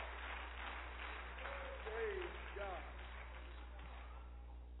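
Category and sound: crowd, audience clapping hands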